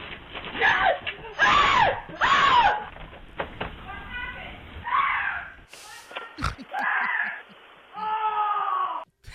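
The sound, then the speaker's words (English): A man shrieks in several sharp, high-pitched bursts, followed by more strained, wavering vocal cries after a brief abrupt break, as he runs and trips on his front porch in Raleigh, North Carolina, with a rat clinging to his shirt. “So the video shows him running, tripping, and shrieking all at the same time.”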